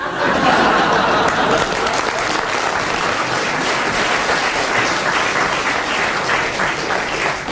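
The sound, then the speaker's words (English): A crowd applauds steadily, a dense wash of many hands clapping at an even, sustained level from start to finish, with no one speaking over it. “You may applaud, but no doubt all the lawyers will cry unfair.”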